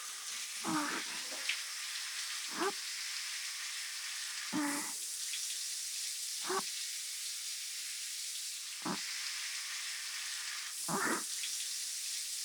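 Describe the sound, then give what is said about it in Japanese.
A steady hiss of shower water runs throughout, with about six brief splashy surges at irregular intervals as the spray rinses soap foam off a right arm and from between the fingers, moderately loud, with no talking. “まずは右腕の泡をきれいに流して、指の間に残ったのもきれいきれいに。”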